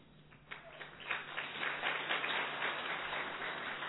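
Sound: audience clapping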